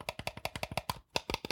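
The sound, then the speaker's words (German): Quick plastic clicks from game controller shoulder buttons being pressed, about a dozen in a fast steady run with a brief pause before a few more. No talking. “Das sind die Schultertasten.”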